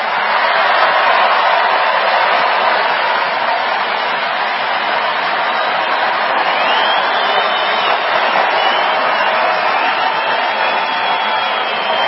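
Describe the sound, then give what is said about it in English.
A large crowd at a Trump rally cheers for World War II veteran Irvin Julian as he is carried behind the president, a dense, unbroken roar, loud and steady throughout with no single voice standing out. “Listen to that crowd.”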